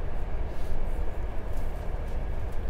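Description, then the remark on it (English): A steady, loud roar of a train moving through a long tunnel, with deep rumbling low end and a constant rushing hiss that never lets up, no voices present. “This is a long tunnel.”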